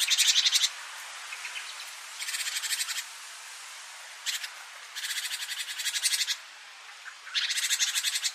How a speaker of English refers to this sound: At least they aren't intending to communicate by composing meaningful utterances from more fundamental, meaningful parts. Notes in a bird's song aren't the equivalent to words in a sentence.